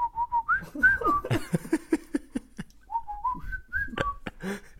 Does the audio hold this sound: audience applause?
no